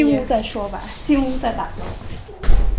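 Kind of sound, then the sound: household object, door closing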